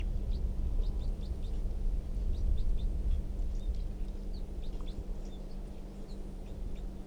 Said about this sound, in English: That wild bird, I think, is still in the tree, but it's very quiet, and the decoys are also very quiet.